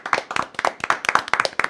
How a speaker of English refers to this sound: Okay, enough clapping. Stop clapping. It's a force of habit. Just keep clapping for life.